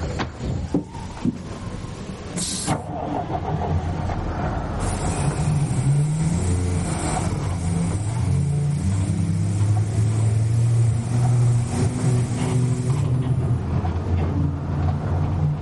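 A bus engine rumbles steadily, settling into a low, droning idle with a faint hiss of air over the top. No one speaks.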